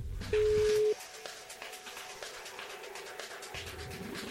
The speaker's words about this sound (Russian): И если телефонная связь нас не подведет, все должно получиться и случиться. Есть гудок.